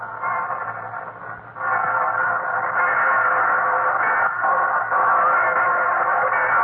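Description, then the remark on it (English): Many church bells peal at once across Paris, heard from the square in front of the Notre Dame cathedral. Their overlapping tones blend into a steady, muffled clangor that swells louder after the first second and a half. No one speaks. “And now all the church bells in the city are beginning. I can hear three or four more churches, and I'll let you hear them.”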